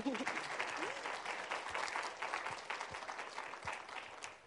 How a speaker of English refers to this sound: Awesome. You guys can applaud for her.